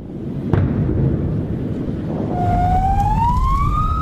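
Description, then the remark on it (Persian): An ambulance siren in Gaza during bombardment rises in a steady upward wail from about halfway through, standing out over heavy rumbling, wind-like background noise; a brief sharp thump sounds early on. “بمباران، صدای آمبولانس و شیون بازماندگان.”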